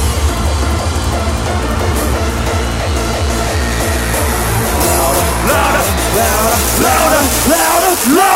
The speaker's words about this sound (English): Let me hear you fucking scream.